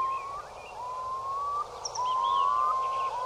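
A curlew calls in a series of long, clear whistles, each drawn out and rising slightly, with fainter higher chirps scattered over them and no voices.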